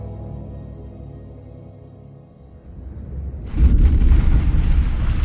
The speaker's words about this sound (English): The explosion drifted up the cavern below like a distant thunderclap, clearly audible and yet curiously dampened.